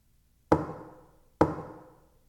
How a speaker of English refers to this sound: knocking on windows to get a few laughs? It's a possibility. Come to think of it, maybe it was my imagination. Maybe I heard the usual creak in the house, and my paranoid mind has mistaken it for a knock.